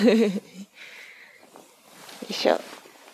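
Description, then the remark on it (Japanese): Paper sheets of questions are moved aside, rustling and shifting, soft and papery, with a louder crinkling swipe near the end. A brief voiced sound comes just before the rustling starts. “ちょっと質問の紙をどけます。”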